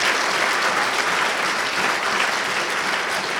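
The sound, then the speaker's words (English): A church audience applauds God steadily, a dense wash of many hands clapping at once, loud and sustained without letup for the whole stretch, with no voices rising above it. “Come on, he deserves better than just a little golf clap for that.”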